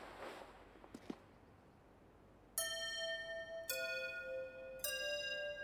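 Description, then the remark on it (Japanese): A school chime rings out in three clear, sustained tones, each bright and ringing with rich overtones, the second lower than the first. Before it, faint footsteps and a soft rustle. “ちょうどチャイムだ。”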